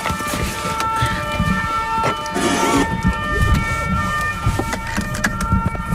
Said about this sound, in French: Dès qu'on a une alarme quelque part, quelle que soit la nature, hein, les gardes interviennent immédiatement. C'est ça que vous avez entendu, le pimpon que vous avez entendu tout de suite.